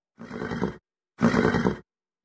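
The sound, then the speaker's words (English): A horse squeals twice, each cry loud, harsh and about half a second long, with a short pause between them and no other noise around it. “A squeal or scream usually denotes a threat by another horse.”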